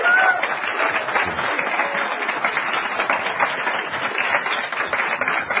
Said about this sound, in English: let's give them a worldwide round of applause, please.